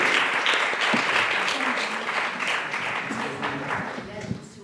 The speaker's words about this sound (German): Dann einmal einen herzlichen Applaus für Beatrix Hegenkötter, direkt aus dem Landtag hierher gedüst von der SPD.